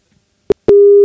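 telephone ringing tone

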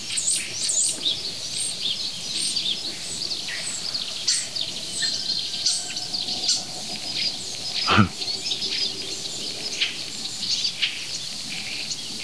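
water bird calls

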